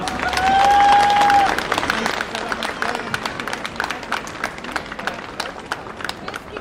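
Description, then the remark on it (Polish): A crowd breaks into dense, sustained applause for two folk ensembles at a Polish folklore event. It is loudest at the start, where a high whistle rings out briefly, then settles into steady, scattered clapping that continues to the end. “Brawa!”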